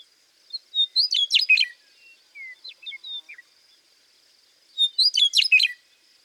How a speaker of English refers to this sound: And now here's the gurgling, flute-like song of a western meadowlark. This bird was recorded in South Dakota.